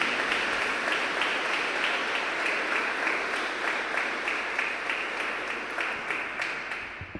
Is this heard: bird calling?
no